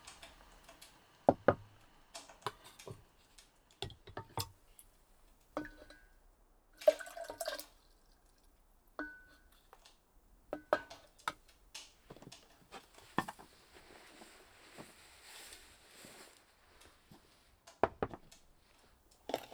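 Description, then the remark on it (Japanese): Quiet matcha preparation: scattered light taps and clinks of utensils, small drips and trickles of water, then a stretch of brisk, airy whisking before a few final taps. No one speaks. “抹茶をご用意いたします。しばしお待ちくださいませ。”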